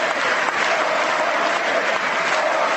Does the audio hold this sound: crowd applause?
yes